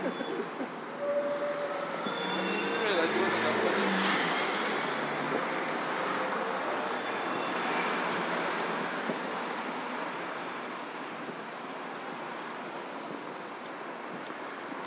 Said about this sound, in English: So on this side, the queuing seems to largely be traffic heading towards the river, heading east. And I suspect it's because Vauxhall Bridge Road will be pretty well pointless travelling along Vauxhall Bridge Road as Vauxhall Bridge is closed.